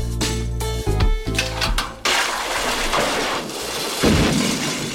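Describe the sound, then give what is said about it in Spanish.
In a Tom Hanks film scene in a ruined house, a heavy bathtub, filled with heated water poured from buckets, smashes down through floor after floor: a sustained groaning tone gives way to loud, rumbling crashes with repeated booming impacts and a dense wash of debris noise, no voices. “Y al echar el agua de los cubos a la bañera, la bañera empieza a caer piso tras piso, ¿vale?”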